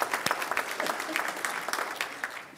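An audience claps steadily for designated celebrators, with many overlapping hand claps forming a dense, continuous patter that holds at an even level throughout.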